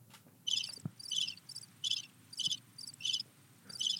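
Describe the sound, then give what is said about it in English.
Crickets chirp in quick, regular pulsed bursts, about seven trills in steady rhythm over a faint low rumble, with no voices present. “It sounds like a really squeaky wheel. Are those crickets?”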